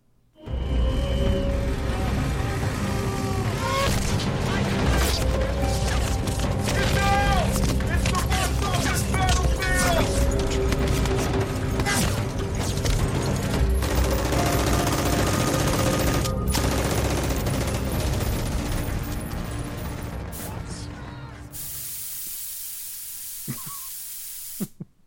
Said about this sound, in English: Well, let's direct our attention over to the battlefield on your right, because we have a firefight about to happen.